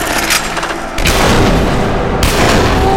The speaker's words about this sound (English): He launched us both out the window, glass shattering and bullets screaming past.